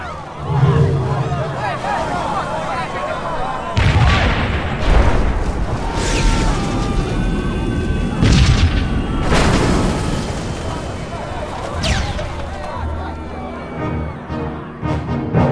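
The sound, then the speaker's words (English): Flying vehicles (flyers) crash and explode everywhere in a chaotic din: several loud, heavy booms burst out at irregular intervals over a constant roaring rumble, with faint babbling voices mixed underneath. “Flyers! Flyers crashing everywhere!”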